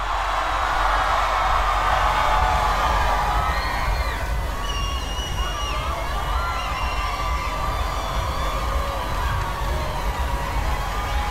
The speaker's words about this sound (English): Ahora dice que va a contar hasta tres. Y que cuando diga tres, va a que todo el mundo grite lo más alto que pueda, ¿eh? Vamos a escuchar ese grito.